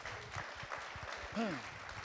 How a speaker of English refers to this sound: Well done. Give yourselves a clap.